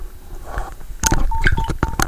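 household object, mobile phone keypad tones

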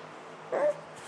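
animal, puppy whimpering and yipping

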